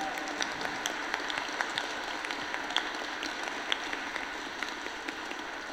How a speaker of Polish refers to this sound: Wielkie brawa dla Jezusa. Możemy poklaskać Panu Jezusowi.